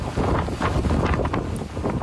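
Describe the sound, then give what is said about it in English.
Hurricane Helene's winds roar in a loud, continuous rumbling gust as it comes ashore on the northeastern Gulf Coast, heard in Fort Myers, Florida, buffeting the microphone with heavy low-end turbulence and occasional higher whooshing surges, with no voices present. “Hurricane Helene, as it roared ashore on the northeastern Gulf Coast, the sound in Fort Myers, Florida, posted on Facebook by the Lee County Sheriff's Office.”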